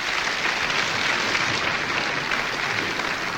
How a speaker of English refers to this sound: We've got applause. Good. We'll applaud anything here, even a mistake.